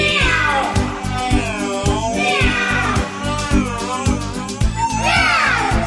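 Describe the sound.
A steady, upbeat song with drums and bass, over which several drawn-out cat meows rise and fall as part of the music, loud and close alongside the instruments.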